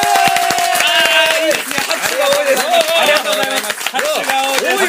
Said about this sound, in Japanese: 拍手が多いです。